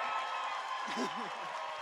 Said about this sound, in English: Hey, give her one more round of applause.